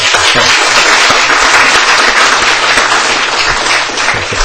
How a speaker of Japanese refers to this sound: ようこそお越しくださいました。拍手で。